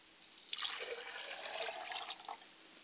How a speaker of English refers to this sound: I pour a glass of water for my father's spirit, and I like to say Ashe. Pour a glass of water for my mother's spirit, and I say Mother Ashe.